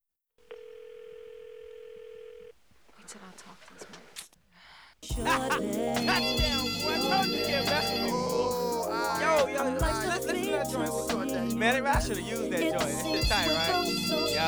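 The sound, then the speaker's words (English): A steady telephone dial tone hums for about two seconds, followed by a quick flurry of dialing beeps and clicks as someone phones a man, then loud music with a heavy beat abruptly takes over. “Call him right now.”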